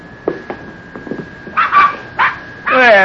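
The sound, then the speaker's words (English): Newborn puppies of the hound Rube yip and whimper in a stall, a string of thin, high, squeaky cries that start faint and scattered, then grow louder and longer, ending in a wavering whine. “That darn Rube, he went and had himself a batch of puppies.”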